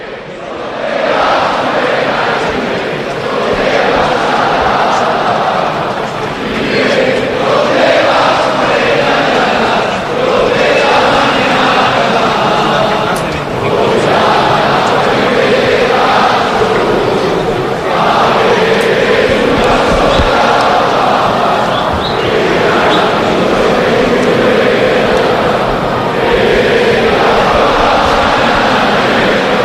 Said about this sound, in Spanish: Entre aplausos también la grada celebra esta fuente de cacho, José Raba, en un estadio un poquito más vacío de lo habitual, ¿eh?